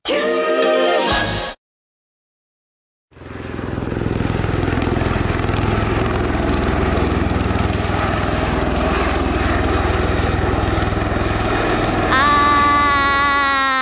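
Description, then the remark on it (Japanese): A voice imitates the heavy thrumming drone of an Osprey tiltrotor aircraft, a loud, steady rotor rumble lasting about ten seconds after a short pause, with a brief tonal sound before it. “飛行機の真似。 あれはオスプレイですよ。”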